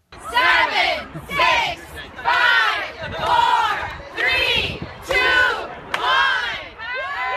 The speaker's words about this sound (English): 7, 6, 5, 4, 3, 2, 1. As it gets dark, the crowd erupts in cheers. There they are. Erupting and cheering. Ecstatic reactions from some Americans.